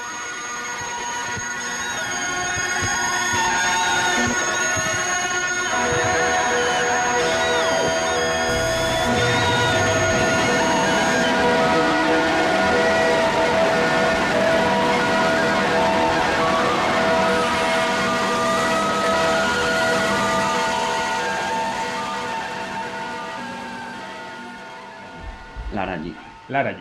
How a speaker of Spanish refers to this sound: Influenciado por el …, construye un muro de sonido donde los drones eléctricos chocan continuamente entre ellos